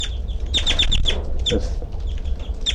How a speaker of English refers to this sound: That's the two birds. 3-2 there. And 3-2-7 approaches 3-3 a little bit, but he's not vocalizing. That's 3-3.